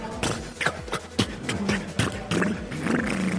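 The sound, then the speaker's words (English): Mel Blanc's voice imitates the sputtering, coughing engine of Mr. Benny's car on a radio broadcast, in place of a sound-effect record that wasn't plugged in: a rough run of rapid bursts and throaty pops in an uneven rhythm, steady and fairly loud throughout. “and made the sound himself. And ever after, he became the sound of the car.”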